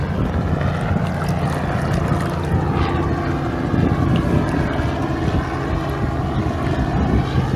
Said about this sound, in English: Look, let this helicopter go by, okay?